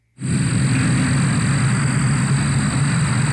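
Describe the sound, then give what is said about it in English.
Cicadas produce a loud, steady high-pitched drone that starts abruptly and holds for a few seconds over a constant low rumble, with no talking. “Here's a sample of what they sound like in case you don't know”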